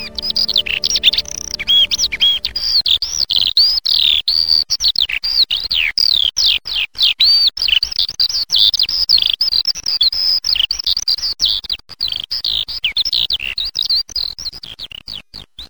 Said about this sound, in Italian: Possiamo ascoltare il canto di alcuni uccelli presenti in questa riserva. L'allodola.